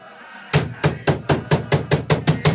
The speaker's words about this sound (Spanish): No hay respuesta. Únicamente los golpes en la puerta que retumban en la barraca.